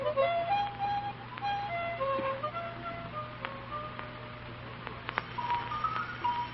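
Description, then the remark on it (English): A new harmonica is played, a wandering, reedy melody of sustained and short notes over a steady low hum, with no voices. “A new harmonica. Sure is a beauty, too. I guess I'll run along downstairs and have a whack at it.”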